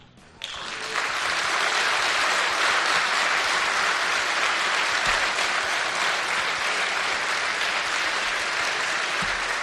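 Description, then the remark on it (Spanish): A stadium crowd bursts into a sustained ovation, part of a four-minute ovation, loud dense applause and cheering that swells within the first second and holds steady throughout without letting up. “No, Adrián, son cuatro minutos de ovación, ¿eh?”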